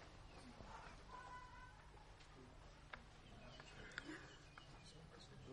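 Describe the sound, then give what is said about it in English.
A bird sings in short, thin chirps and warbling notes over a steady background hum, fairly faint, with a couple of soft knocks in between. “That's a nice bird.”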